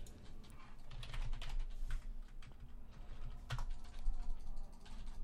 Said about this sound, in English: World's loudest keyboard.